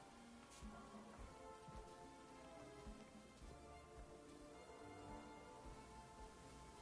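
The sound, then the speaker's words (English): Steady rain falls continuously, a dense wash of patter with scattered heavier drops spattering on a surface, with no voices. “Real rain?”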